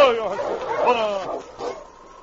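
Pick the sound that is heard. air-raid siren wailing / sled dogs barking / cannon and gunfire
sled dogs barking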